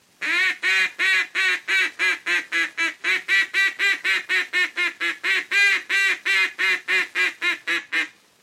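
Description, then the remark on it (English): A duck call, blown loud and high, imitates two or three mallard hens on the water, pumping out a fast, steady run of about two dozen loud, nasal quacks, overlapping like a small group of birds calling together. No one speaks. “Notice how this call is made to simulate two or three mallard hens on the water, joining their calls and pleading with those ducks to come down to them.”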